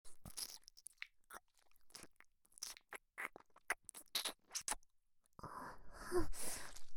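Wet ear-licking mouth sounds: an irregular series of soft smacks, clicks and slurps, ending in a denser, louder stretch of moist rustling. No one speaks.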